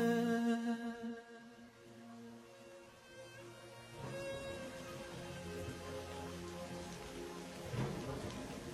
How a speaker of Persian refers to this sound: همین صدای بارونیه که توی پایتختم کاملا شنفته میشه.